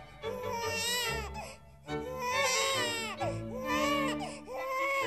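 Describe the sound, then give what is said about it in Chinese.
A newborn baby cries in a tree house in long, wavering wails, three or four sustained bursts separated by brief gasping breaths, loud with no other voices. “突然，树屋中传来了婴儿的哭闹声，这个哭声惊动了在树下的凯拉，在不远处狩猎的克莱敦也听到了，忍不住大喊： 哦，难道是生了吗？”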